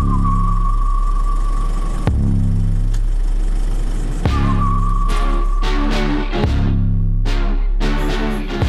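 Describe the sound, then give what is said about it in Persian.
A car, with the dog Niko put in the back, is started and runs at a steady idle with a deep continuous rumble, broken by a few sharp clunks and brief bursts of louder noise. No one speaks. “نیکو رو انداختم پشت ماشین، استارت رو زدم و صدای موزیک رو تا آخر بردم بالا.”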